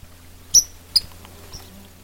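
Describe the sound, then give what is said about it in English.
A solitary sandpiper, a shorebird, gives its flight call as it flies past on the Superior Hiking Trail: two sharp, high-pitched whistled peeps about half a second apart, then a fainter third note, over a low steady hum. “He flew past me and made that little sound.”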